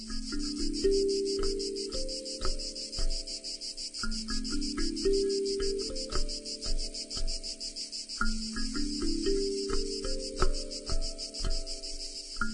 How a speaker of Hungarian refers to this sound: Nem tudom, hogy vagytok vele, de nekem még mindig ciripel a tücsök a fülemben, és nagyon sok, főleg természetközeli élmény jut az eszembe.